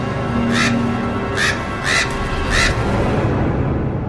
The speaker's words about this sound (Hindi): छत पे इतने कौओं की लाशें थी जैसे छत पे कोई काली परत चढ़ी हो और कुछ कौवे वहां छत पर बैठे आवाज कर रहे थे।